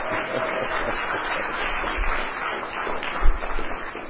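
A crowd applauds steadily for about four seconds, a dense crackle of many hands clapping at once with no pauses, holding a fairly even level throughout.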